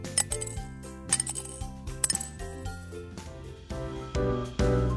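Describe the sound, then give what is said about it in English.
Several bright metallic clinks of coins dropping into a piggy bank, ringing out one after another over a light, tuneful musical backing. “I'll save my coins in a piggy bank.”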